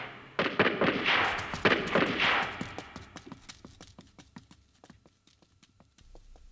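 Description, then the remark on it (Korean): A long string of sharp gunshot cracks at night in Koreatown, Los Angeles, near West 8th Street, loud and dense at first, then thinning into scattered, fainter pops with gaps between them. “한국 관광객 질겁에 간 떨어지는 총소리 따당 따당 따당 따당 따당”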